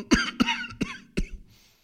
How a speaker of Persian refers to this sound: با شنیدن صدای سرفه های مامان خیلی دلنگران شدن. حال مادر روز به روز بدتر می شد.